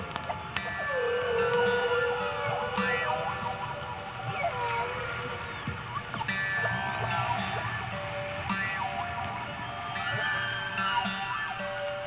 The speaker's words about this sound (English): But the whales deep inside those same waves were aloof to all the turmoil at the surface, and their sounds were peaceful and serene.